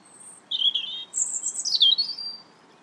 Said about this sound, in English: That's a tiny, tiny bird.